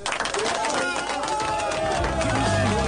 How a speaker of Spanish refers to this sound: Estos aplausos son para la columna extraordinaria, emotiva, conmovedora que nos regaló